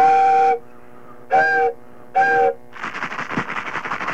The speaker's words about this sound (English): Well, tell us a little bit about it. You got this little train whistle that... start us off, huh?